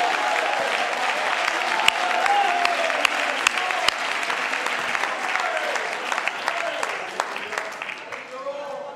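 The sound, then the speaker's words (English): An audience claps steadily and enthusiastically in response to the preacher asking those who have ever repented to clap their hands and shout thanksgiving to God, dense overlapping applause mixed with scattered shouts and cheering voices, sustained and fairly loud throughout before easing slightly at the end. “Oh, if you've ever repented, would you clap your hands?”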